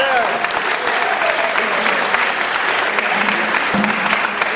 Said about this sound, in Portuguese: Uma salva de palmas!